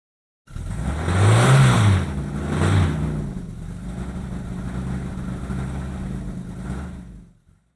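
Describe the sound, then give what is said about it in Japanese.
A taxi's engine revs up loudly near the start, surges again briefly, then settles into a steady idling rumble before cutting off, with no voices present. “これはタクシーです。それもタクシーです。”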